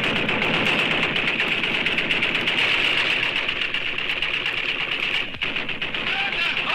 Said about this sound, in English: He says listeners cherished the show's signature opening. Which featured, the AK-47 gunfire, the sound of an AK-47.